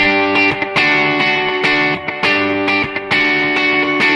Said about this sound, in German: Ich gehe mal auf ein Space Echo, das hat ein bisschen mehr Höhen.